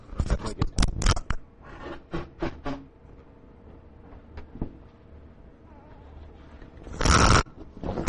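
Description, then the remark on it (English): A nose is blown in a quick run of sharp, scraping noises, then a stretch of quiet hum, then one loud, harsh clattering burst as a microphone falls on the floor. No one speaks. “I didn't want to have it record me blowing my nose, but it records the mic falling on the ground.”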